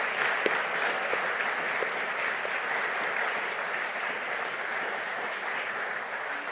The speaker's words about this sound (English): So can we give folks just a big round of applause and appreciation for that? Thank you.